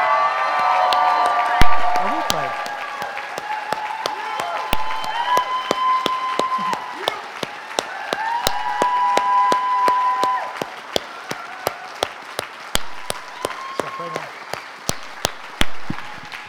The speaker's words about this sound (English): And this is, let's give a huge round of applause to the Parr family.